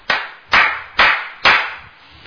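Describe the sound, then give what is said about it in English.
Four sharp hammer blows from someone hammering outside land in a steady, even rhythm about half a second apart, each ringing out briefly before the next. No one speaks. “No, I put it on mute because there's someone hammering away outside.”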